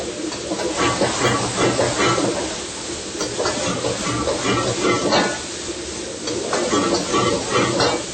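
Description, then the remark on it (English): A loud, steady sizzle and hiss of a little water added to a hot wok of tofu on high heat, crackling continuously with occasional bursts, sustained for several seconds. “Now we're gonna turn high heat again. All right. Just put a little bit of the water here, just a tiny bit.”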